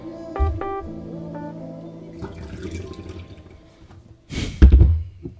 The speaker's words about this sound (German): Ich liebe das Geräusch. Hast du das Plätschern gehört?